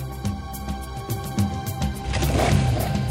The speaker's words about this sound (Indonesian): Persis jam 00, para joki sudah meraung-raungkan mesin kuda besi. Mereka tidak perlu komando untuk memulai balapan tradisional.